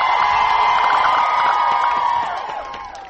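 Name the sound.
rally crowd cheering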